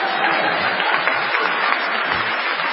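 Steady audience applause fills the whole stretch, a dense wash of many hands clapping at an even, sustained level with no voices standing out.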